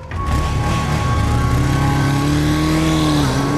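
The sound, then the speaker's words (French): A motorcycle engine revs loudly and steadily at the foot of an apartment building at 5 a.m., its pitch climbing and dipping as it accelerates away, a continuous throaty drone with no voices. “Et on voit en bas de l'immeuble une moto venir, repartir, revenir.”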